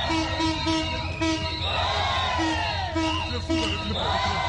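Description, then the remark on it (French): Women market vendors near the central train station in Brazzaville cheer and applaud the arrival of a train in a steady, loud din. Many overlapping voices, high whoops and shouts keep rising and falling throughout. “Ici, toutes les vendeuses ont applaudi l'arrivée du train.”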